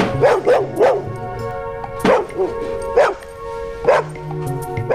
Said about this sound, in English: The dog wags its tail as it whoops and … tries to shush the dog